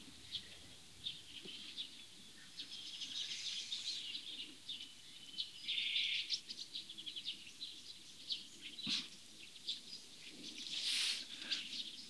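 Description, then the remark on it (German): A bird sings repeatedly, bright chirping phrases scattered over a soft outdoor hum, with no one talking. “Ich lasse kurz Pause, denn wir hören einen wunderbaren Vogel im Hintergrund.”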